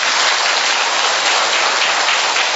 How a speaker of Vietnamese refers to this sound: Cho nên một lần nữa chúng ta tạ ơn Chúa đã đưa những người anh chị em đến đây, và một tràng pháo tay cho những anh chị em đó.